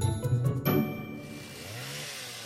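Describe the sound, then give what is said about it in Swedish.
A chainsaw engine runs, loud and buzzing at first, then settles into a steady drone as its pitch rises with a rev. No one speaks. “Chainsaw.”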